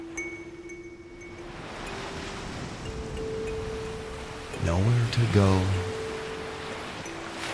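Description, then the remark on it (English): A steady, hissing wash of ocean surf rolling in at a beach fills the background throughout, with a low sustained drone beneath and a calm voice speaking briefly over it. “Just like those waves themselves”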